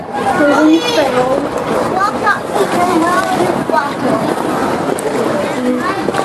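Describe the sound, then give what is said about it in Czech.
Lively outdoor crowd of Muslim children playing around playgrounds, with overlapping high-pitched voices chattering and calling out from all around, a steady dense babble with light wind noise. “Tak vlevo, vpravo, vepředu, vzadu jsou tady slyšet muslimský děti.”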